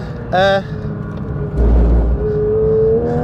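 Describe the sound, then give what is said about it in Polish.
A performance car's engine drones steadily from inside the cabin as it drives its 28th or 29th lap alone on a race track, rising into a louder rev midway, while a man talks over the continuous motor noise. “i w sumie to już nie wiem, to jest 28 albo 29 okrążenie.”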